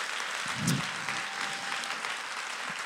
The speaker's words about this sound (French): Et ça s'applaudit, je trouve.